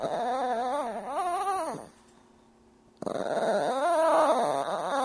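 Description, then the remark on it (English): A mixed-breed dog whines while begging for attention to be petted, in two long, wavering, high-pitched bursts with a brief pause between them, fairly loud, with no talking. “And she makes a lot of funny noises, as many pets do, but especially when she's begging for attention, specifically if she wants to be pet, she makes a sound that sounds nothing like a dog.”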